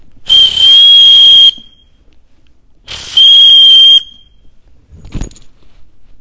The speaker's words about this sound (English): Make sure they're playing by the rules. And when they don't play by the rules, what does the official do? He blows a whistle.